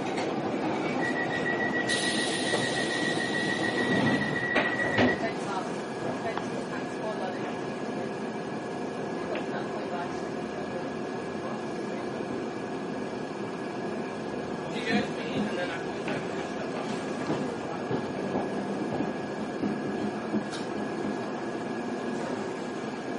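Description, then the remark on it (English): A London Underground Piccadilly line train to Northfield rumbles steadily while running through a tunnel, with a high metallic whine and a brief wheel screech early on, loud throughout. “Is a Piccadilly line service to Northfield.”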